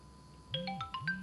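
A phone ringtone plays a quick melodic sequence of bright electronic tones, fairly clear, with a low humming background underneath and no one speaking.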